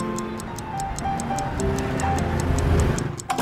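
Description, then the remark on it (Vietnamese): A clock ticks steadily in an even rhythm, each crisp tick clear over a soft, warm musical bed with low sustained tones underneath. “Khi đồng hồ điểm đúng giờ tan làm, bạn trở về nhà.”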